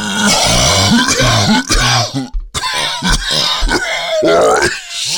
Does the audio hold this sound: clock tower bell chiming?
no